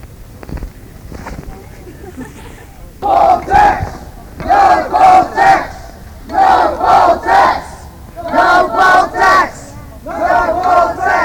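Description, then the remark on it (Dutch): A crowd of protesters at a picket in Amsterdam on International Solidarity Day chants in unison, repeating a short rhythmic slogan in loud bursts of three or four syllables with brief pauses, after a few seconds of low rumbling background noise. “En er is niet alleen hier in Amsterdam een picket, maar in een heleboel hoofdsteden in Europa en in Amerika en waarschijnlijk ook in Australië zijn vandaag pickets bij Britse ambassades en consulaten.”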